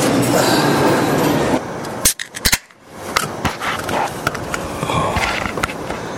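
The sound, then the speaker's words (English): A can of Ducatis beer, the first of the day, cracks open in hot weather in a town called Alan Reed: a few sharp metallic clicks and a pop, then a brief fizzing hiss, set against a steady, rushing background noise. “Sound of the first can opening of the day.”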